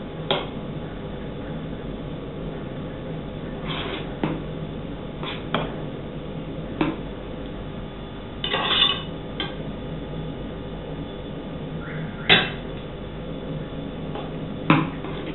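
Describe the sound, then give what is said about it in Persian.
A spoon spreads white rice in a pot into a layer about 2 cm thick, with soft scraping and a series of irregular metallic taps and clinks, over a low steady background hum and no talking. “یا قاشق پهنش میکنیم روش.”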